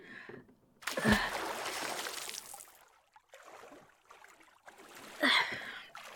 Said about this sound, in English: Now, jump out and help me push the canoe back out to sea.